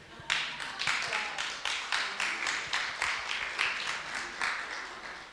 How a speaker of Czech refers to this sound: Potlesk.